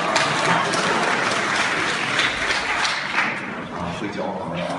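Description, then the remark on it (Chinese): A crosstalk audience breaks into sustained applause as Deyun Team Five xiangsheng performer introduces himself, dense and steady clapping at high volume throughout, easing slightly toward the end, with faint voices mixed underneath. “您真客气 啊，我叫…啊，鼓掌啊。”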